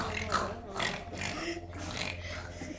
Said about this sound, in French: J'aime le son des cochons.